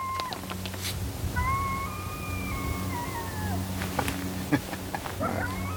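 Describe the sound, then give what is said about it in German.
A single drawn-out coyote howl rises and slowly falls, carrying from the other side of a canyon over a steady low rumble and faint outdoor background noise. “Ein Kojote heult.”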